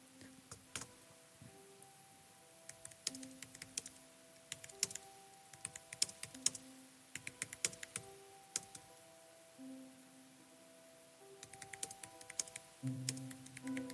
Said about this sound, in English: And I'm going to give you the key click so that you can hear me typing it in.